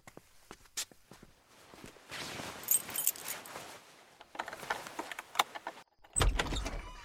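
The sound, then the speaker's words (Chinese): A few footsteps lead into the door of an ancestral family house creaking open, its loud grinding creaks stretching out in long strained bursts before ending with a heavy, booming thud. “咦，老公，这门是不是得叫油啊？这么大声音！”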